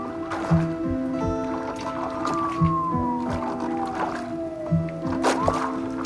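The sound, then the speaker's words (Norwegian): Oars dip and splash in ice-cold river water as a rowboat crosses the river, at a slow, steady rhythm, about three strokes, with creaking and groaning tones from the boat woven between them. No one speaks. “På vei over den iskalde elva i robåten har gjerningsmannen åpnet Kvikli-posen for å ta ut pengegevinsten.”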